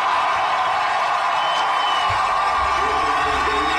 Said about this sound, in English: The crowd reacting to the announcement that the city will host the 2034 Winter Olympic Games.